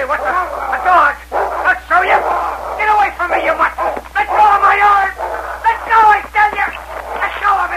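A dog barks and yips repeatedly in loud bursts, with a steady low hum underneath, like an old radio recording.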